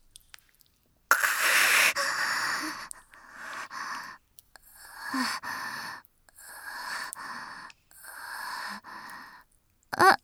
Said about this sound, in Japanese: そう、急いで戻ってきたから息が切れちゃって。